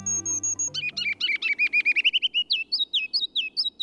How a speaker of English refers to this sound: It's spring, and the ruby-crowned kinglet's loud, rollicking song echoes from the forest edge in northern and western lowlands. Listen carefully, and you can hear three distinct parts of its song.